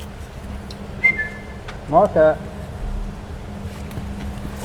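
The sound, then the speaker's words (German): A zookeeper whistles to call king penguins in front of the zoo's Vivarium early on a February morning at about 5 °C: a thin, quick whistle, then two louder, rising whistle bursts close together, over a steady low outdoor hum. “Der da gepfiffen hat, war der Zolli-Tierpfleger”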